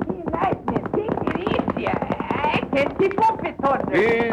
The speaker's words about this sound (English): Whitey's only complaint is the rapid pace set by Lightning Jim and his big black horse, Thunder.